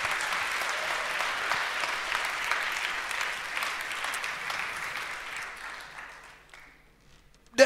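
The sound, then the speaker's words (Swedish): A crowd claps steadily in a dense, even wash of applause that gradually thins and fades out over several seconds, ending with a brief louder burst at the very end. “En varm applåd.”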